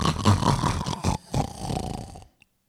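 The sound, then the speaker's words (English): A voice imitates a monsignor's loud, rattling snore, one long drawn-out rasp lasting about two seconds with a brief break in the middle, prominent, then cutting off to silence. “The Monsignor snores again.”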